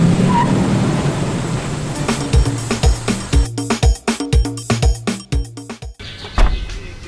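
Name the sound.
car driving away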